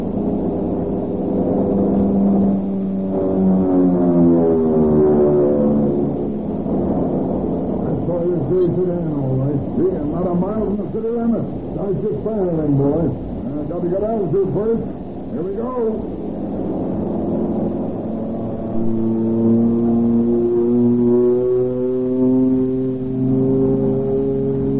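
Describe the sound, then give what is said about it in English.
A loud airplane engine roars steadily, its droning pitch climbing and swooping up and down as the plane dives toward a car on the ground, over country north of Tucson, sustained throughout without pause. “Hold on, we're going down.”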